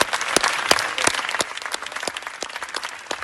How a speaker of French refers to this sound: Huit longues minutes d'applaudissements, de standing ovation, c'était ce matin à Cannes, en France, au Festival international du film. Huit minutes d'applaudissements qui ont suivi la projection du film Freda de la haïtienne Jessica Généus